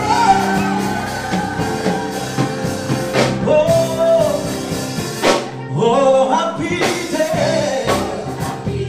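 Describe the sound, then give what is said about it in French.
A lively crowd at an afternoon gospel concert in Boissy shouts and cheers joyfully, with loud whoops and bursts of yelling rising over dense, continuous musical backing, energetic throughout. “Si tu es content, faut des cris de joie.”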